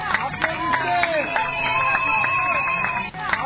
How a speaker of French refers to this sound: L'ambiance est électrisée par quelques pas de danse sous des acclamations frénétiques.